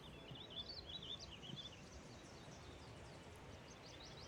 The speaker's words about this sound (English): Yeah, I'm hearing a lot of yellow warblers. Okay. That deet, deet, deet, deet, deet, deet. Mm-hmm. That's a yellow warbler. Oh, that's their sound